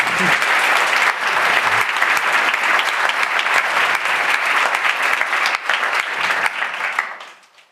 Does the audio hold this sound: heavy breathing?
no